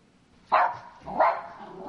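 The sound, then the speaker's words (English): A big dog's bark played by an Amazon Alexa smart speaker asked to bark like a dog: three sharp, separate loud bursts with a slight tonal whine, spaced about three-quarters of a second apart with quiet gaps between them. “Alexa, bark like a dog.”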